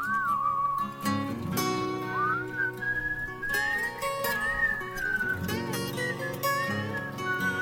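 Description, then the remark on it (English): A bright whistled melody glides and wavers through a song tune, carried over a full instrumental backing with steady low bass, continuous and fairly loud throughout. “Maybe does a cappella whistling.”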